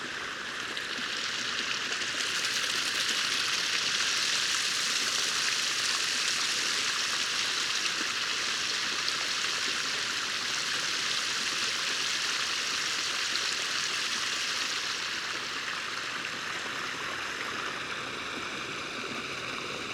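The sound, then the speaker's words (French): A steady, dense roar of rushing water from a waterfall and stream, heard on a walk beside the waterfall, loud and continuous, with the hiss brightening and shifting in the middle as a parabolic microphone sweeps across, before settling slightly softer toward the end. “Allez, une autre petite balade au bord d'une cascade.”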